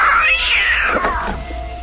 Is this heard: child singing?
no